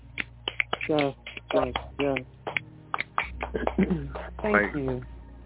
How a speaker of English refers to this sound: Can we give a round of applause